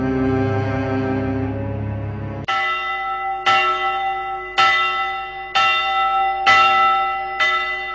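After a brief low, droning sustained tone, church bells ring out in steady, evenly spaced strikes about once per second, each loud and resonant with a shimmering ring that fades before the next.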